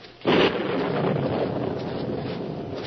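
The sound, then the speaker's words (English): A sudden loud thunderclap in an electric storm bursts in after a brief hush, then gives way to a steady, rolling roar of thunder and storm noise that carries on without fading. No voices. “In an electric storm like this, it's dangerous to fly a kite.”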